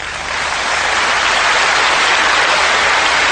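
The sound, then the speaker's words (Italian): A crowd bursts into sustained applause, a dense, steady wash of clapping that swells in the first half second and stays loud throughout, with no voices heard over it. The show is paused for a last applause for a singer. “Purtroppo devo dare una brutta notizia e mi sembra doveroso interrompere per un momento questo spettacolo che è fatto di festa, di gioia e di canzoni, per rivolgere l'ultimo applauso a ….”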